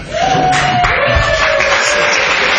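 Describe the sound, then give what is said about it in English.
A church audience claps steadily throughout, a dense, even wash of applause at constant loudness, with a faint sustained tone or whoop threading through it. “You can clap. That's okay.”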